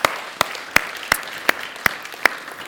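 A single pair of hands claps seven times at a steady, even pace, each clap sharp and crisp, with faint background noise between them and no voices.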